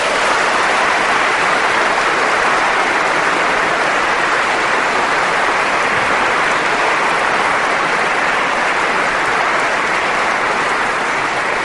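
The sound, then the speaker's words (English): Sustained audience applause for two debaters at a debate, a dense, steady wash of many hands clapping at even loudness for about twelve seconds, with no voices rising above it. “I think we owe them a round of applause for that.”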